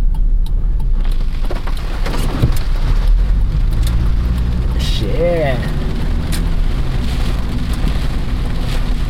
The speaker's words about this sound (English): Okay, we're going to go out to the rain now. Listen to this.